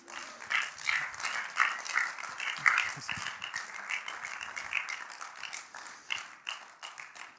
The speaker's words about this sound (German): Wenn du willst, kannst du dem Jesus einen Applaus geben.